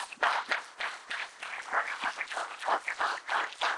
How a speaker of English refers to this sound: Give Lord another hand clap of praise.